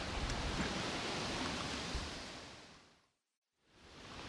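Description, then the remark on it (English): Steady, loud rushing wind on a breezy day, heard while walking towards beehives; a broad hiss and rumble that fades to a brief silence near the end, then gusts back. No one speaks. “You can probably hear the wind, and it's quite a breezy day.”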